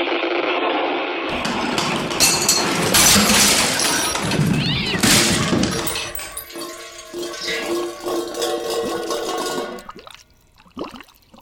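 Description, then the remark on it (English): Ice grinds and crushes against a tiny boat's hull in fog as the ice closes in and Superman tries to force a passage: a loud, sustained roar of cracking and splintering, then strained, groaning creaks of timber that taper off into faint crackles. “The ice is closing in. It's crushing the boat.”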